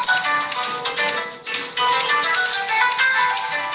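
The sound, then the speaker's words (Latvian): A mobile phone ringtone plays continuously during a meeting with voting, a bright melodic electronic tune with steady tonal notes, fairly loud, with no talking over it. “Kādam zvana telefons?”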